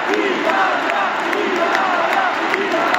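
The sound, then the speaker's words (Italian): A large crowd loudly chants "Italia" over and over in a steady, rhythmic cadence, the many voices blending into a dense, continuous roar with the chant rising about once a second. “Lo c'entra il Milan? Perché dicono Milan, Milan?”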